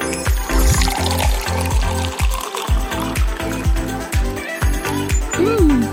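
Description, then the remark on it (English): Water runs and splashes steadily, like a tap pouring into a sink, with a burbling, gurgling texture and a few rising tonal swirls near the end, used as an effect in an advert for Digital Water. “With just a tap on your phone, quench your thirst with Digital Water, straight from the virtual oasis.”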